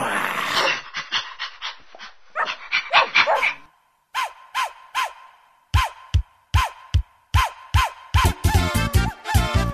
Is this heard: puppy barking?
yes